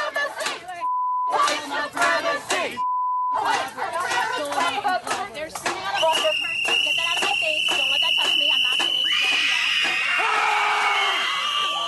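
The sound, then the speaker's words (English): A loud crowd of Antifa protesters shouting and screaming over one another at diners inside a restaurant in Philadelphia, with two short censor bleeps early on and a piercing sustained shriek rising in the second half. “And then they're trying to scream, just geniuses over here.”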